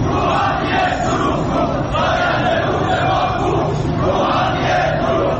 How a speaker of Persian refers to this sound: سال اعتراض‌های شهروندان به بی آبی و مدیریت نامناسب آب و انتقال آب از استانی به استان دیگر، از خوزستان گرفته تا فارس و اصفهان، با کشاورزانی که در اعتراض به انتقال آب زاینده رودشان به یزد دست از اعتراض و تجمع و شعار بر نداشتند.